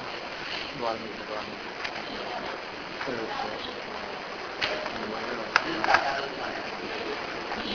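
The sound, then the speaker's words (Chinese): Steady, splashing water runs down continuously from a roof with poor drainage, wetting the corridor, a hissy wash with a few sharper drips and spatters near the end, and faint voices murmuring in the background. “哦， 屋顶排水不好，所以那个水就直接流下来。”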